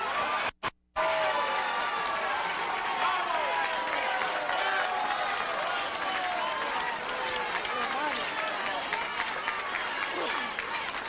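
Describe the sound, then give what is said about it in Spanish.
Sustained applause from a large crowd in Venezuela as interim president Juan Guaidó enters with the board of the National Assembly; dense steady clapping with cheering voices layered over it, continuing loudly throughout after a brief cut at the start. “Hace su ingreso, en medio de aplausos, el presidente interino, el anunciador está dándole crédito a quienes le acompañan en tarima.”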